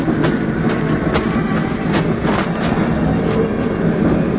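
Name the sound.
train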